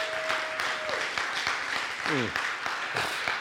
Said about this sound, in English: Everybody say amen. Amen. Go ahead and give the Lord a hand clap of praise this morning.